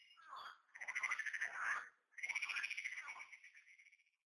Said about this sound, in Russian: Услышав грохотание туч, лягушки, которые прежде хранили молчание, вдруг принимаются квакать